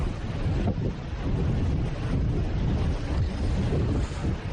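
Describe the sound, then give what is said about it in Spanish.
Hurricane-force wind from storm Ciarán roars steadily into a microphone at the Valdezcaray ski station in La Rioja, where gusts reached 143 km/h; a dense low-pitched rumble with buffeting gusts and no let-up, loud and unbroken, with no voices. “Sonido del viento que nos llega desde la estación.”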